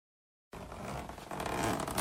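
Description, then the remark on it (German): After a half-second of silence, a suitcase packed with neatly folded sweaters, trousers and skirts is unzipped and its lid opened: a steady rasping zip with scraping and rustling that grows slightly louder toward the end, no voices. “Abbas öffnet den Deckel vom Koffer.”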